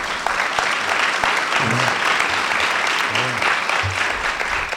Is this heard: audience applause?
yes